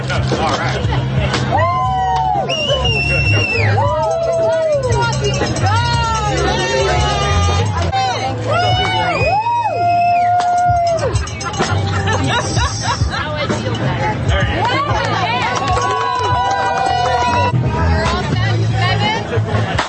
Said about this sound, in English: Then, of course, here's one of the forest classics, running around screaming and paying thousands of dollars to yell and scream in the forest. Here it is.